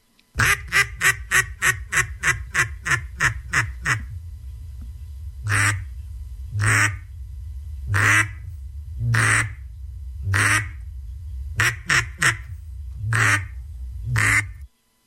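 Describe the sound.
A contestant's duck calling routine: a rapid run of sharp duck-call quacks opens, then slows into longer, drawn-out quacks spaced about a second apart, loud, with a final quick burst near the end; no talking.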